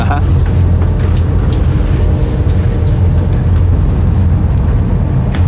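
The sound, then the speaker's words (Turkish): The engine of the 7:50 passenger ferry drones in a loud, steady low rumble that fills the whole stretch without letting up, with faint indistinct voices mixed into the background noise. “Burada vapurumuz geldi.”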